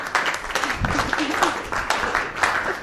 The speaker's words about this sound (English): Yay, let's clap.